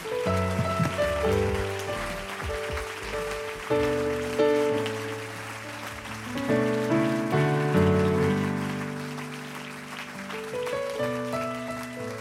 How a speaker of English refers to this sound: Let's give that hand clap of praise unto the Lord.